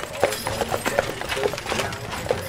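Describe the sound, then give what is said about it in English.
Hooves clip-clop at a steady walking pace as a horse-drawn stagecoach passes on a street in Tombstone, the rhythmic knocks sounding over a low, busy outdoor street ambience. “Horse-drawn stage coaches pass by constantly.”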